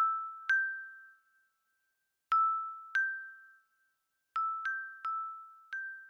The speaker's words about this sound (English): The last thing Klaus heard before passing out was the fairies laughing, the sound of tinkling silver bells on the wind.